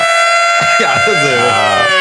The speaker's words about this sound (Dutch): Nee, ik kan het alarm niet vinden. Te laat.